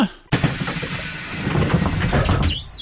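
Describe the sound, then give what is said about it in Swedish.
At the back of a bus on bus line 154, the interior rumbles steadily while a high, wavering squeal of brakes rises and dips, joined by a brief hiss near the end as the vehicle slows. “Välkommen längst bak i bussen.”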